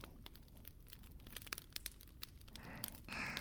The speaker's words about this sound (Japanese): あなたにとっては暖炉の音はどう聞こえますか？